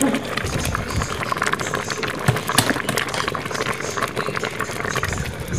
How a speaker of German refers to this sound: Das sind die Linsen, die da vor sich hin blubbern.